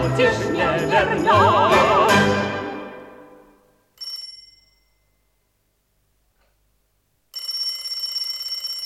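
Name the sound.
telephone ringing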